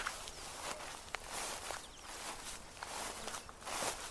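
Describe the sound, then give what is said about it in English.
Steady footsteps crunch along at a walking pace as someone walks around a car to its other side, each step a soft scuffing burst over a hissy, textured background, with no one talking. “I went around to the other side.”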